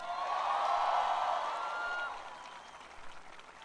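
A crowd applauds in a dense, steady wash of clapping with some cheering mixed in, holding strong for about two seconds before tapering off into scattered claps.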